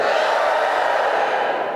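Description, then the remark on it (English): An audience cheers and roars together in a dense, steady wash of voices, answering a call to cheer if they don't care about football. The cheering holds at the same loud level for the whole two seconds, with no single voice standing out. “Give me a cheer if you don't give two shits about football.”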